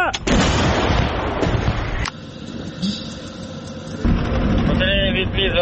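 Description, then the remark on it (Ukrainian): A single artillery gun fires one round on a fire command from its crew, with a sudden, deep booming blast that rolls on for a couple of seconds, fades, then swells again into a loud rumbling echo, with voices faintly audible. “Прошу один вогонь. Армата!”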